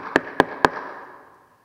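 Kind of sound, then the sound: sound effect, knock on a door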